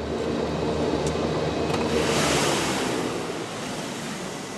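A float plane splashes down onto an Arctic harbor that is clear of ice in summer, near a tourist lodge: a steady loud rush of spray and churning water over a low engine rumble, swelling midway and easing slightly toward the end. No one speaks.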